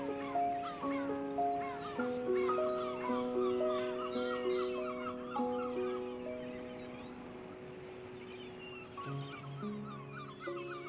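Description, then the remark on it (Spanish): A dense seabird colony of gulls, cormorants and gannets gathered by the sea to breed, calling all at once, dozens of overlapping harsh, wailing cries forming a continuous loud chorus, with a few lower squawks standing out near the end. “Millones y millones de gaviotas, cormoranes o alcatraces se reúnen para criar allí donde los océanos son especialmente ricos en alimentos.”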